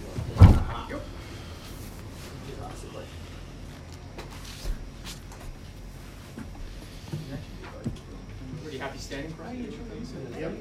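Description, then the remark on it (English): A door shuts with one heavy thud right at the start, followed by a long stretch of muffled voices and quiet shuffling. “close that door? I'm reminding you.”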